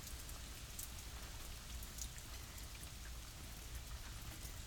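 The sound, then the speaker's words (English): Steady rain falls continuously, a dense hiss of drops pattering on surfaces with a low rumbling undertone, even and unbroken throughout with no voices. “It's nice, relaxing, just the sound of rain falling.”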